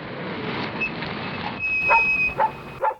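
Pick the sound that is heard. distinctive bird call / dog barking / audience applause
dog barking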